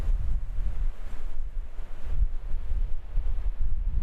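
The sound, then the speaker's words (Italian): Strong wind gusts roar through a narrow gorge that channels harsh wind onto houses, a steady low rumble that swells and buffets the microphone in uneven surges, with no voices. “Che è la gola che poi, come si dice, veicola un vento abbastanza impietoso sulle nostre case.”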